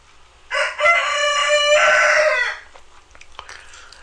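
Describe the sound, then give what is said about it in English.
A single rooster crows a loud, drawn-out cock-a-doodle-doo lasting about two seconds in the morning, transmitted over an open radio mic, followed by faint background rustling and no speech. “I'll keep the key down just for a moment, and maybe he'll cock-a-doodle-doo a few more times.”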